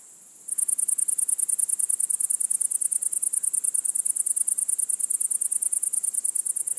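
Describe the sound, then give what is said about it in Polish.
A loud, rapid, steady trill of cricket-like insect chirping starts after a brief quiet moment and continues without pause in a fast pulsing rhythm, high-pitched. “Tymi bardzo charakterystycznymi cykaniami od lipca do października rozbrzmiewają lasy, zagajniki, łąki, skarpy, ogrody, działki, parki, aleje, miasta i wsie.”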